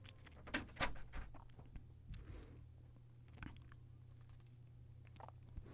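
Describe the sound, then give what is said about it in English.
A door swings shut with a couple of sharp clacks early on, followed by faint scattered clicks and taps over a steady low hum. “Then I'm going to close the door so there's not a lot of extra noise.”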